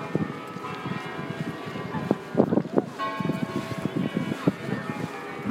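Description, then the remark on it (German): The church bells of the Kremlin in Moscow ring continuously, their sustained tones layered and echoing, while a person talks and wind buffets the microphone faintly. “Oh, jetzt hört ihr gerade die Glocken hier vom Kreml.”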